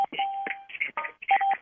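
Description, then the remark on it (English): Telephone keypad dialing tones on a Sunday phone call sound in a quick, irregular run of short electronic beeps, some held a bit longer than others. The tones are clear and fairly loud, with no talking. “And we're still hearing those tones.”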